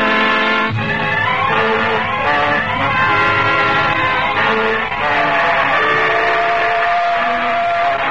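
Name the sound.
train passing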